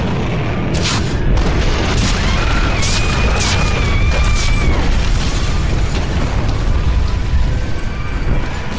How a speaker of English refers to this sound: You'll hear a lot of big explosions and things there toward the end that are overloading the mic on her cell phone that's basically recording all of this